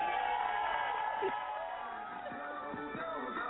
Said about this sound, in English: So yes, bravo to you. I think you need your own round of applause. Because should I do it? Should I do it?